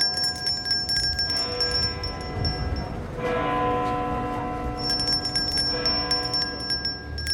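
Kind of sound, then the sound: sound effect, tolling bell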